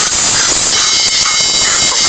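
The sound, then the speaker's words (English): A loud, raspy wheezing hiss from a dog said to have emphysema runs steadily through the whole clip without letting up, with muffled voice-like sounds mixed into the noise. It is heard in the background of a police traffic-stop recording while the officer runs a background check on the young man pulled over. “There's a dog in the background with emphysema.”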